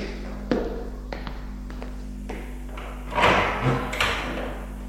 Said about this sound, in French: On a frappé à la porte, intriguée, un peu apeurée. Elle va aller ouvrir.